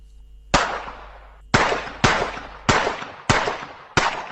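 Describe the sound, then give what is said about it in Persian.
A series of six sharp gunshots cracks out in quick but uneven succession, each loud blast followed by a brief decaying echo, with no voices present: a gunman firing repeatedly while attacking a daycare centre around lunchtime in the town of Uthai Sawan, Thailand, about 500 km northeast of Bangkok. “شلیک های پی در پی فرد مسلحی که حوالی وقت نهار با حمله به مهد کودکی در شهر اوتای ساوان تایلند واقع در 500 کیلومتری شمال شرق بانکوک دست کم جان 20 کودک خردسال و 18 بزرگسال را گرفت.”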